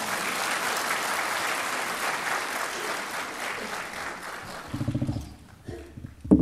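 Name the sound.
audience applauding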